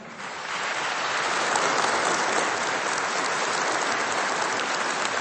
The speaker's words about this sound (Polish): Jesteśmy w parafii Narodzenia Pańskiego w Pajęcznie w archidiecezji częstochowskiej, a są z nami słuchacze Radia Maryja, których my w tym momencie przywitajmy bardzo gorącymi i rzęsistymi oklaskami.